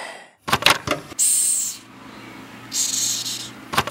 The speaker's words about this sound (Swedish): Berättade att vissa har väsande kackelacka som husdjur. De gör precis som de låter. De väser de sig hotade.